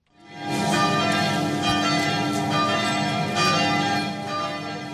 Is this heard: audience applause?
no